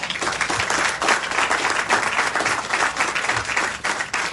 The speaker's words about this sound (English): That is worth a hand clap.